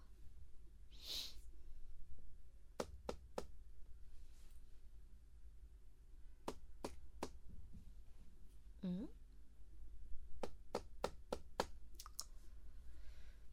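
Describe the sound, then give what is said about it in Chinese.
A knife chops fruit on a cutting board, cutting fruit for a teacher: sharp taps in quick irregular bursts. A faint low hum fills the background, with a brief breathy whoosh near the start. “给老师切水果。”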